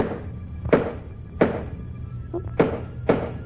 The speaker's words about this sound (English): She must be opening a wooden box. Maybe it's something she doesn't want me to see.